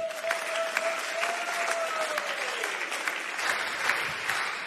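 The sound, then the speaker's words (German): A crowd applauds a guest steadily for several seconds, dense overlapping claps at an even level, with a thin whistling tone sliding downward in the first half. “Und wir geben dir jetzt hier nochmal einen richtig fetten Applaus.”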